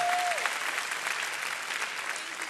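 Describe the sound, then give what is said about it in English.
An audience applauds steadily, a dense wash of many hands clapping at a sustained, fairly loud level throughout, with a brief tonal hum at the start. “Now, you're clapping now.”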